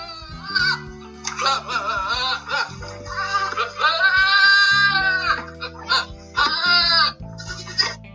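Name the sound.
goat bleating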